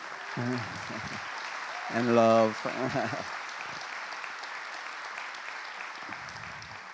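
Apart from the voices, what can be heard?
audience applause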